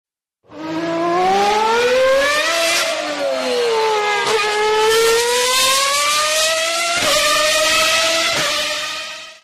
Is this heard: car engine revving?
yes